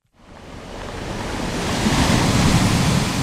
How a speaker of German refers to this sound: Die Wellen klatschen an schrundige, rotbraune Felsen. Die sehen aus wie riesige Kleckerburgen. Sind sie ja eigentlich auch. Es ist erstarrte Lava. An den Klippen gurgeln hellblaue Strudel mit weißen Schaumkronen.